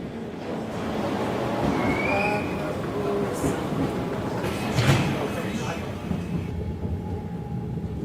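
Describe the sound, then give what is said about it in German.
A train on a route through the Alpine foothills between Lake Starnberg and the Ammersee rumbles steadily as it begins to move, with a brief metallic squeal and a sharp clank midway, while indistinct voices murmur in the background. “Wenn der Zug dann mal rollt, dann wird es sehr schnell schön auf dieser Fahrt durch das Alpenvorland.”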